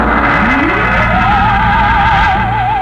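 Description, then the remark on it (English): Loud, continuous rumble of trucks and jeeps driving around a rocket on a concrete launch strip at Dry Wells, Texas, in a radio play of Destination Moon, with an engine whine that climbs in pitch and then wavers steadily over the dense traffic noise. “On the vast concrete strip at Dry Wells, Texas, the form of the rocket towers above the cranes, the loading machinery, and the scuttling trucks and jeeps.”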